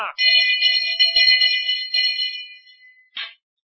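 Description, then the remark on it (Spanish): A loud, ringing metallic bell strike with bright sustained overtones that slowly fade over a few seconds, bracketed by short bursts of noise at the start and end. “Es que con estas campanadas tan gordas se me olvidó deciros.”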